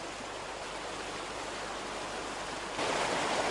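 Steady rushing river water flowing past the restored Tamuxe watermill fills the scene with a dense, continuous hiss, swelling noticeably louder and brighter in the last second. No voices are heard.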